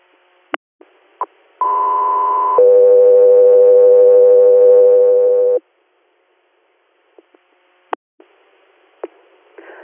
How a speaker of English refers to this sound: Echo 3 ahead. Stand by for tone.